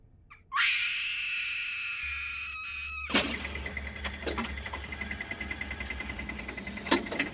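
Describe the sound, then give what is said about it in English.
A woman's loud, sustained scream of terror echoes off the walls of a cave for a couple of seconds, then cuts off abruptly into a dim, hollow, rumbling ambience with scattered faint clicks. “Komal could now scream, and she let the full force of her terror bounce against the walls of the cave.”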